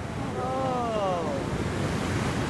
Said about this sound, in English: Good ride. We're watching just wave after wave come in. Here comes the surfer right in the swell, and then he just bit it. 15, 20 feet high, I'd say.